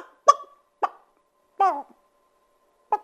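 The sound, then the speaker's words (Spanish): A voice imitates a hen clucking: five short, separate clucks spread unevenly over a few seconds, one slightly longer and more drawn out, clear against silence. “Deja de cacarear.”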